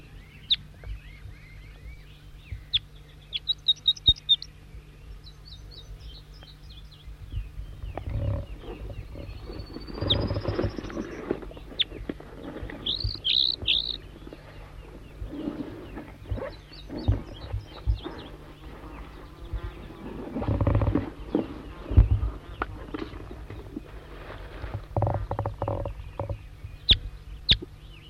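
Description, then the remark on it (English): Wild bird song in short, high, chirpy phrases that come in scattered bursts, sitting over a steady low rumble with louder thumping and rustling noises in between. “Recording the wild bird again.”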